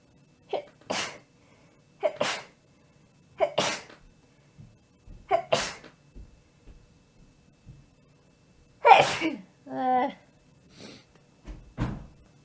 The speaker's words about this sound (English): I'm gonna sneeze.